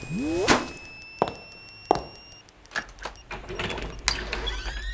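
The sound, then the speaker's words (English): A wooden door is demolished with a series of heavy, sharp blows, four or five loud bangs spaced unevenly, amid rising electronic whirs and high tones, with no one talking. “This isn't the first door I've demolished today!”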